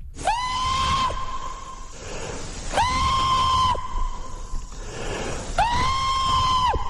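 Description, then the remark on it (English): Three loud, sustained howling screams, each lasting about a second, rising sharply and holding a steady high pitch before dropping off, evenly spaced with a breathy pause between each: a person's voice making Sasquatch calls, a technique used in the woods to try to find Bigfoot. “See, on that show, they go in the woods with a full camera crew, and they use techniques like knocking on trees, and they do what's called Sasquatch calls.”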